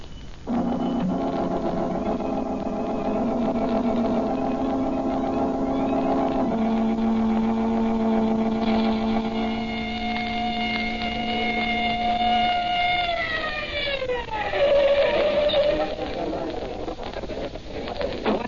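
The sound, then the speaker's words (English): A police car engine hums steadily and fairly loud, its tone stepping higher partway through before sliding down as the car eases off, driving along and slowing. “Come on, I got the police car outside. Let's get going.”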